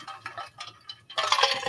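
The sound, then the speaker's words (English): Someone drinking from a bottle to wet their whistle: a few light clinks and taps, then a louder, breathy sip or gulp at the end. No one speaks. “I had to whip my whistle a little bit.”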